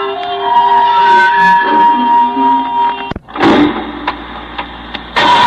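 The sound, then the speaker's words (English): A car engine turns over and starts up, a steady mechanical hum cut by a brief pause before a louder burst of revving and rumbling, with no voices. “Get the car. We have to run them down. I'll bring it around.”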